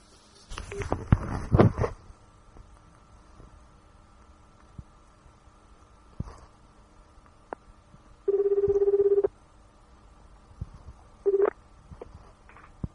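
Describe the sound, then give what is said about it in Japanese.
Phone ringback tone on an outgoing call: a steady, mid-pitched electronic purr sounds for about a second, falls silent, then returns briefly before cutting off, following some handling rustle at the start. “もうすぐまた会うんですけど、電話してみようと思います。ポチッ。”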